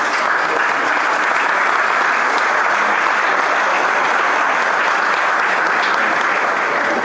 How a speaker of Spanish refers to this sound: A él lo vamos a recibir, señoras y señores, con un fuerte aplauso.